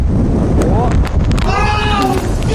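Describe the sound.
Heavy wind buffets an outdoor microphone in a small meadow, producing a loud, continuous low rumble and crackle throughout, with a voice faintly audible underneath the gusts.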